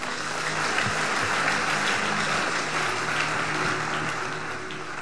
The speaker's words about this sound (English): Give the Lord a powerful hand clap.